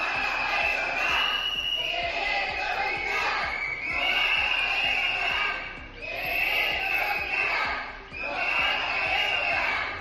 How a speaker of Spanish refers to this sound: Hoy de nuevo se han concentrado a las puertas del hospital haciendo sonar silbatos y mostrando pancartas con lemas como urgente el área 3 en estado crítico.